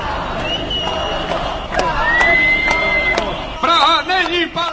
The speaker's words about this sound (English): saying the election was a sham, leading the crowd into chants of "We want new elections" and "Prague isn't Palermo," rejecting the so-called mafiosi at City Hall.